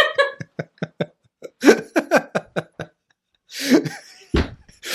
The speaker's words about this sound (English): Whoa! Kicking the table. He hit my knee.